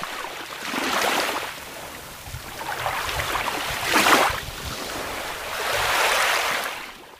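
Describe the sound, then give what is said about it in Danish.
Waves wash up on Danish beaches in slow, repeated surges, each swelling into a broad hiss of surf and then receding, with steady wind-like rumble underneath and no voices. “Og samtidig har vi ladet muligheden for at bruge den energi, bølgerne hele tiden skyller op på vores strande, glide fra os.”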